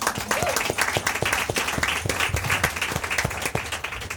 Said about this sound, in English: And a big round of applause for him, too.